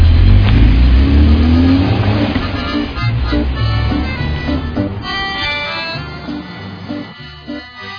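A combi minibus's engine revs loudly with a rising, throaty roar, then settles into a steady rumble as the vehicle pulls away from a fuel station after filling its tank. Faint voices are heard briefly beneath the engine.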